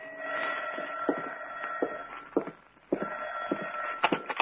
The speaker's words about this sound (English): Two days later, I was home in the apartment. I'd sat down with a good book, and it was about 11 o'clock when the phone rang.